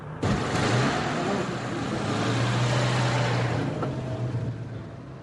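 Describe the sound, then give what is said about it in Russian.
A car engine rumbles loudly, revving as the vehicle pulls away, with a steady droning tone holding through the middle before easing slightly at the end. No one speaks. “Давай я вас отвезу. Хорошо, Лиз, ну, давай, нас на машине сейчас подбросим.”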